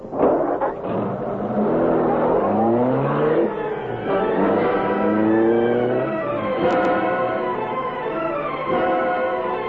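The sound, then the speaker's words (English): A car engine revs and accelerates as the car sets off to follow another car, its pitch climbing in repeated rising sweeps as it shifts up through the gears, loud and steady with no voices. “Follow that car.”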